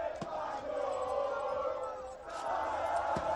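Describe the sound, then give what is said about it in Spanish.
A crowd of football fans shouts and cheers in the streets of Cantabria towns such as Santander, Torrelavega, Astillero and Comillas, celebrating Spain's Euro final win over England into the early morning: a steady roar of many voices with a few sharp bangs or claps cutting through near the start and end. “Gritos como estos se han podido escuchar hasta bien entrada la madrugada en localidades como Santander, Torrelavega, Astillero, Comillas.”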